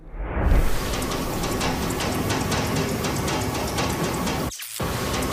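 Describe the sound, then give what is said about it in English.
A door beside a parlor room rattles hard and uncontrollably without letup, a dense, rapid clatter of loose knocking over a constant noisy rush, cutting out for a brief moment near the end before resuming. “Nick and Aaron hear this door rattling uncontrollably, and the X camera set up on the opposite side of the door shooting into the parlor room captures the rattling sounds and then mysteriously malfunctions and stops recording.”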